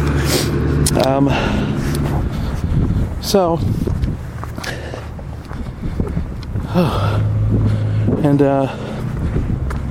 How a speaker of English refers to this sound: That's the mail truck right now, delivering mail, is what you hear next to me.